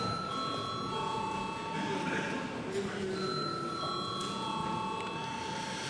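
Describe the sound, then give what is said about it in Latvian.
A steady electric bell rings continuously for several seconds in a parliament chamber before a vote on a bill in its third and final reading, its bright sustained tone over a low murmur of voices and chamber noise. “Lūdzu zvanu.”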